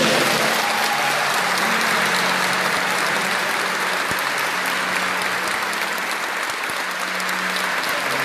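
A crowd applauds steadily at a funeral farewell in a packed church in Caratinga, the dense clapping holding an even, loud level for the full length without easing off. No voices come through over it.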